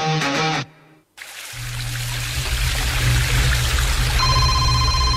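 A steady, loud roar of a waterfall fills the scene after a brief ringtone melody and a short pause, with a low hum underneath and a faint electronic tone near the end.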